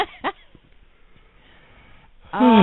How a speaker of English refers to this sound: And a yawn. And she's going to yawn. It's going to make me yawn.